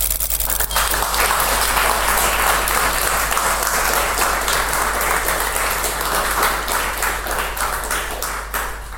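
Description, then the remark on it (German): Sustained audience applause for the speaker at the end of a talk presenting an electronic circuit, a dense crackle of many hands clapping at a steady loudness for the whole stretch, with no talking over it. “Das war dein Applaus.”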